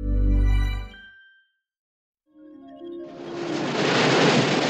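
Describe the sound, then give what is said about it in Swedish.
After a brief low tone and a moment of silence, a broad rushing wash of surf swells up and keeps roaring steadily, like waves breaking on a beach. “Vågor mot en strand.”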